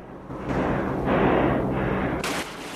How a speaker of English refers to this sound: Eugene shoots. I said hold your fire!